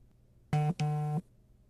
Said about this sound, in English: Don't you want to check your phone? Like, it's been going off a lot. I just want to make sure no one's trying to get a hold of you.